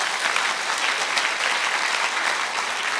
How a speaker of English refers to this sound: Go ahead, give the Lord a clap offering.